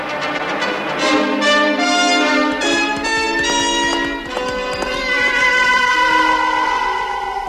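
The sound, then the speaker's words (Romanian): A horse whinnies while steady clip-clopping hoofbeats run continuously underneath, loud, with a tonal musical backdrop filling the scene and no talking. “De ce nechezi, năzdrăvane?”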